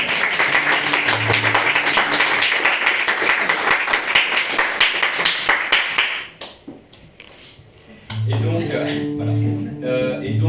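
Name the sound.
audience applause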